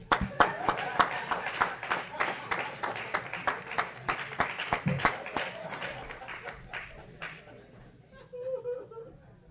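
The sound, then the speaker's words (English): Steady, rhythmic clapping, about three sharp claps per second, goes on for roughly seven seconds and then stops, followed by quieter murmuring voices. “I'm a clap.”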